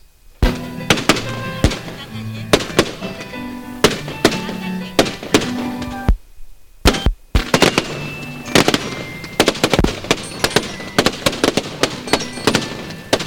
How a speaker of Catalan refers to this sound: Perquè ja comença la part final. El castell de foc sempre acompanya.